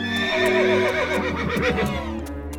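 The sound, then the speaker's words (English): A horse gives a loud, quavering whinny that rises and trembles for a couple of seconds, while steady hoofbeats clip-clop along underneath at a slow walking pace as it is ridden through a forest. “Suddenly, a wounded knight appeared coming through the forest. He rode slowly on his horse.”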